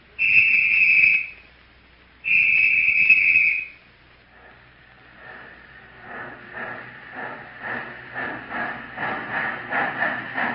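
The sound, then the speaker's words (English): Two long, loud train whistle blasts sound, then a rhythmic chugging clatter builds steadily louder as the train approaches fast during a film shoot. No one speaks. “Man, is that train bowling the jack? I'm afraid it's coming too fast.”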